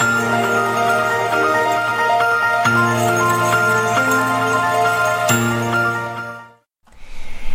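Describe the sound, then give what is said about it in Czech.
Sleigh bells jingle brightly in a Christmas song, over a warm, sustained musical backing with chiming tones, carrying steadily for several seconds before cutting out briefly near the end and resuming. “venku zvoní rolničky, doma voní rohlíčky.”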